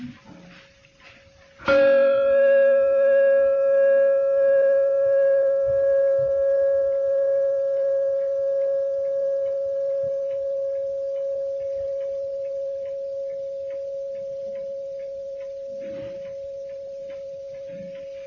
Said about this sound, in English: This is the baby bell, the replica of the big one that was sent with Peter Townsend when he came on the last Amartiti.